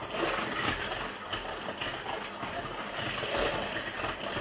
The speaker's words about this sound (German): Und schlage nun die gesamte Masse mit dem Mixer schaumig. Auf einer langsamen Stufe.